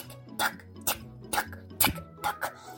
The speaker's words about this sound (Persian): انقدر رفت تا به باغ ناکجا رسید. دید که درخت تیک تاکاش بسیار قوی شده و همین شکلی صداش کل باغ رو گرفته.